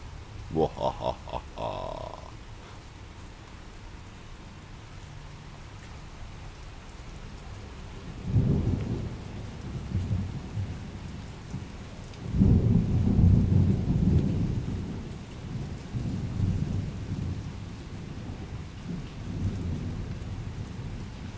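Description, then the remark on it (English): Steady rain hisses throughout a thunderstorm in Melbourne while two deep, rolling thunderclaps rumble, the second longer and louder than the first. A voice is briefly heard at the very start. “This is a thunderstorm in Melbourne. Gonna have another big thunderclap in a moment.”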